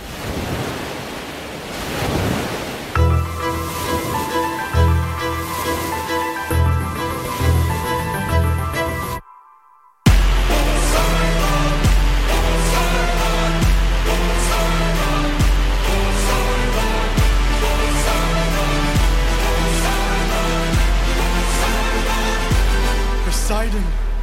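A musical theatre song intro from Epic the Musical: rushing, surf-like noise with rising sustained tones, a brief drop to silence, then a loud, full arrangement kicks in over heavy, steady bass beats.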